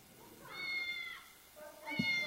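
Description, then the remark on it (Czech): A cat meows twice, played from a mobile phone as a guess-the-animal quiz for children, each a drawn-out, tonal cry, the second starting after a short pause. Both are clear, with no talking over them. “Kočka, výborně.”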